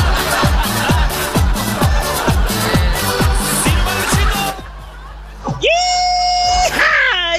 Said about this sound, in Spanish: ¡Ya! ¡Yija! Me dio hasta sed con el grito.